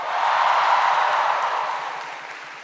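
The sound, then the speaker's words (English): An audience claps steadily for Wolverines players, a dense, even wash of applause that holds for a few seconds and then eases off slightly toward the end, with no one talking over it. “Give them a bigger round of applause than that.”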